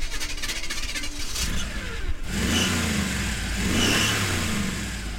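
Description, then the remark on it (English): The engine of a Ghostbusters car revs up and swells, with two louder surges in the second half over a steady rumbling idle, and no voices, at the Macabre Theater on a chilly weekend before Halloween. “It's the Ghostbusters car.”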